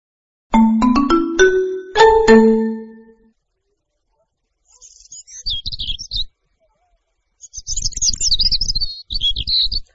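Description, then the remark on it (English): A quick run of bright chime notes rings out, then small birds sing in spring in lively bursts of high, twittering chirps with a short pause between, clear. “In spring, the birds sing.”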